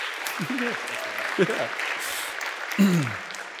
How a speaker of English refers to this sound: Thanks. Let's clap it up